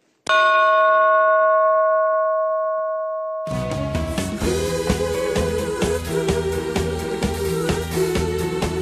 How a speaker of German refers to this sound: Das ist eigentlich eine Notglocke. Wenn ein Ereignis ist auf dem Schiff, eine Notsituation, wo man die könnte brauchen und würde brauchen.